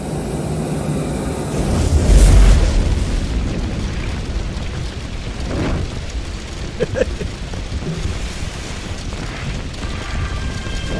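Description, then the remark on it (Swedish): A deep, loud whoomp as fuel poured from a canister catches light from a weed burner, followed by a steady roaring hiss of flame that continues to the end. No one speaks. “Ja, men jag har ogräsbrännaren här, jag kan tända med den.”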